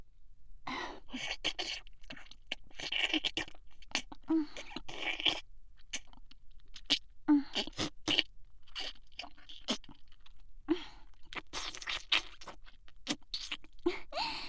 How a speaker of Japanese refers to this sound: それじゃあ次はたまたま舐めちゃおうかな。エッチな音立てて舐めたり吸ったりするからいっぱい興奮してね。